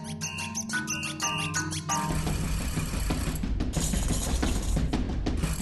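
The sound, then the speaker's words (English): A squeaky toy gives a quick run of short, pitched squeaks, then shifts into a louder, continuous rasping squeal with a gritty, grinding edge as it keeps being squeezed. “But you can get all these different sounds just from a squeaky toy”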